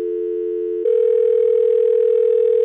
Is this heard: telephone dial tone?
yes